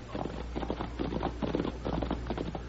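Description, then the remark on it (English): Several approaching horses' hooves clip-clop in a brisk, steady rhythm at moderate volume, with no voices, over a low background rumble. “Quiet, Tommy. I hear horses.”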